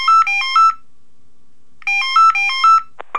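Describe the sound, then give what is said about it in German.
A telephone at the Fun Center rings with a bright, warbling electronic tone in two bursts separated by a pause, loud, followed by a brief click at the end. “Leider kann gerade keiner ans Telefon kommen.”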